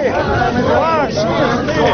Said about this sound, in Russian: Да, вот задерживают общественного активиста Александра Рыклина, который точно так же просто отошел в сторону, развернул плакат и встал в одиночном пикете. Люди вокруг кричат «позор».